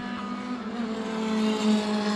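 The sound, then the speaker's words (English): A Spyker Formula One race car engine screams at high revs, a loud buzzing whine with a slight upward pitch, no voices over it. “I guess it's a Spyker.”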